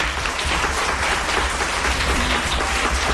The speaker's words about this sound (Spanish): Pues nada más que por... Otro aplauso para ti.